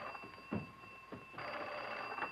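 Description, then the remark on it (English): An old-style telephone bell rings with a steady, metallic jangle, prominent, accompanied by a few soft knocks and a rustle of movement. No one speaks. “There's no sense in us all waiting up to hear the phone. I'll get it.”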